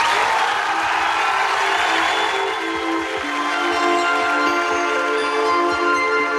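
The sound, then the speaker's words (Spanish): A large audience applauds and cheers in a dense, steady roar of clapping, with sustained tonal voices or music humming through it for several seconds. “¡Aplausos!”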